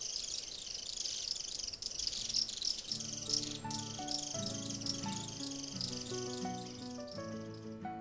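Shrill birds in the mountains chatter by day in a dense, continuous chorus of alarm calls warning that someone is hiding, loud, while steady low musical tones join underneath after a few seconds.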